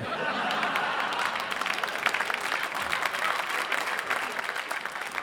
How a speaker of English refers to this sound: Thank you for all the applause.